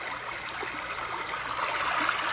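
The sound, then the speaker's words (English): Steady rushing of river water flowing under a bridge, a continuous even wash of bubbling and trickling with no pauses and no voices. “It's almost like we put a bridge here with no expectations, and then a river just emerged.”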